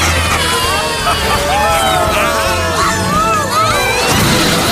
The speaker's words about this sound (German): Nur ganz knapp über dem Straßenverkehr. Ganz schön viel Verkehr hier.